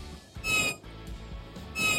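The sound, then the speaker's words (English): A hawk gives two shrill, high-pitched screeches, one early and one at the end, each harsh and ringing with a thin whistling edge. Quieter rustling fills the gap between them. “It's a hawk.”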